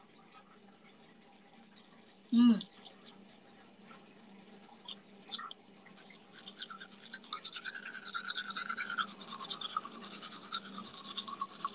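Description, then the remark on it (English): Steady scrubbing of toothbrush bristles builds up in the second half, a rhythmic scratchy brushing, preceded by a single sharp knock and quieter rustling. “Indonesian toothbrush is just like, you know, when it's big, when it's Japanese toothbrush, when it's big, it's so big.”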